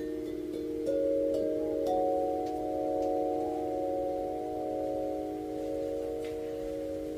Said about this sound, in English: I'm going to go ahead and play those notes, because I have those Corinthian bells in here. Here they are. So this set of chimes is really my first large set of wind chimes, followed, fairly quickly by this one.